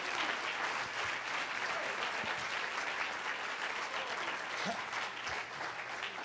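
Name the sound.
audience clapping hands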